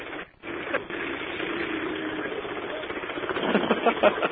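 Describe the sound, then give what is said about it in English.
Loud street construction noise in New York, heard while going by someone doing construction work: a dense, steady mechanical roar that swells near the end into harsher, rattling pulses, as if a jackhammer or heavy machine is pounding away. “It's going to get real loud here because we're going by somebody doing some construction.”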